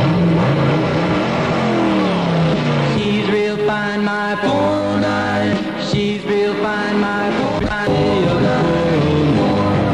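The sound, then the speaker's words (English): A Chevrolet 409 car engine revs loudly with rising, sweeping pitch for a few seconds, then gives way to an upbeat song with harmonized singing and steady instrumental backing. “Back when I was a kid, the cool car to have was a Chevrolet, a 409.”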